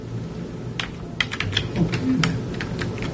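Irregular clatter of keys being typed on a computer keyboard, with quick uneven taps over a low rumbling background hum.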